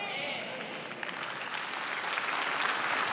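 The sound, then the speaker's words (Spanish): A church audience applauds the Lord steadily, a dense wash of many hands clapping that holds at an even loudness throughout, with faint voices mixed into the crowd noise. “Aplauda duro al Señor, porque esto que le voy a decir va a ser duro para usted. Ya aplaudió.”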